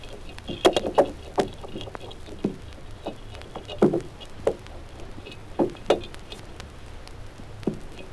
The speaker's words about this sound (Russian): Зеленушки питаются. Слышен захват и перетирание пищи.